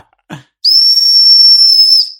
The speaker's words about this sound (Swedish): att ja, det var en våldtäktsvisselpipa här då.